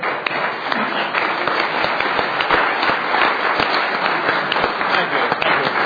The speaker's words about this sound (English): I'd like everybody to give a special thanks to Chairman Bebout, Senator Meyer, Senator Perkins, Senator Dockstetter, and Senator Astor. They did a wonderful job. If you guys will stand up, and let's give them an applause. Yeah. Great job.